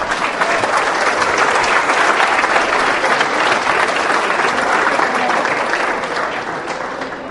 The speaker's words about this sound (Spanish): Por favor, dense un aplauso.